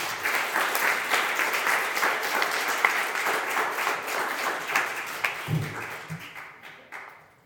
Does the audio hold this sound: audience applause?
yes